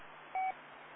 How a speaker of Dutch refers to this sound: Ja, ik hoor ook op twee wat pieptoontjes. Hè. Ik denk, waar komt dat nou weg? Heb ik anders hier iets aanstaan? Ja, ik heb hier genoeg aanstaan, maar inderdaad, het morsen gebeuren, dat hoor ik hier ook.